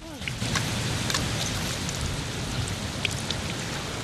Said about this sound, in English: He lowers his head into the depression he's dug and listens to the water. Couldn't find it, couldn't get it. And it was driving me mad, you know, to be able to hear water.